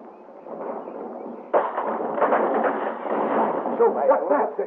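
An aircraft crashing down: a steady rumbling roar that suddenly surges louder partway through, then keeps up a harsh, crackling din with bursts like explosions until the end.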